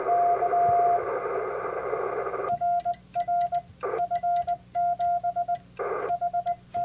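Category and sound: signal or alarm, morse code radio transmission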